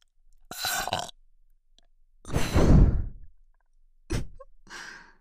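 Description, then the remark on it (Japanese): A long, deep, rumbling burp, loud, framed by a few shorter breathy bursts before and after, with no talking and silence between the sounds. “ゲップで頭バグらされて、乱暴におちんちんしごいて、気持ちいいのでいっぱいいっぱい。”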